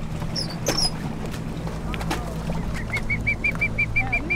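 A rescued bird, being scooped up from a boat with a net, gives a few high, sharp chirps, then a quick, evenly spaced run of short repeated calls, all over the steady low rumble of a boat engine.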